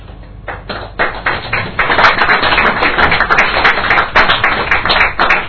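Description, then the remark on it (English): An audience claps, starting with a few scattered hand claps that quickly swell into steady, dense applause, loud and continuous with no voices. “So nice to have clapping between the people.”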